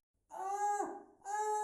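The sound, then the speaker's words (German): Two loud, high-pitched screams coming from a wardrobe in quick succession, the first sliding downward as it fades and the second starting strong after a short gap, with no talking. “Er schreit sogar. Ein schreiender Schrank.”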